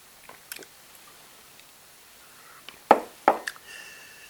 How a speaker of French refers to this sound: Chers amis, je vais boire une goutte d'eau pour pouvoir vous parler avec une voix nette.